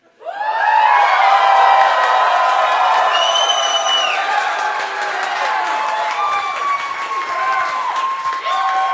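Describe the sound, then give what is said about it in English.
A large crowd erupts into loud, sustained cheering for the speaker's wife, with high whoops and shouts over a dense roar that holds steady for several seconds without letting up. “So for this one, I figured that I would let everybody here cheer for my wife.”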